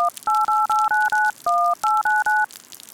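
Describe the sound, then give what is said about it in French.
A phone number being dialed to call the caller's mother for a ride home after a concert: about ten quick touch-tone beeps in a steady rhythm, each a clear two-note electronic tone, with one held a little longer, over faint background hiss and no talking. “Bon, espérons qu'elle décroche.”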